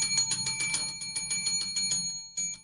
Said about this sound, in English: Well, hit the bell or something, or hit the lemmings gong or something.